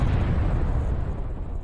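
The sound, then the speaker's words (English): Loud, rumbling explosions on a Green Line subway train, with a heavy low-end roar, sustained rather than separated into distinct blasts, filling the short moment with dense, booming noise and no voices. “And then you hear explosions on the Green Line. Explosions.”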